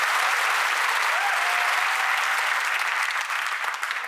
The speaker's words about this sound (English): Alice, some artificial applause, please.